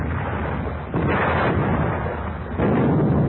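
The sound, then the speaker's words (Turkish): All of a ship's cannons firing in a dense, continuous rumbling roar that jumps louder twice, once after about a second and again near the end, with no voices. “Bütün toplar ateş! Ateş!”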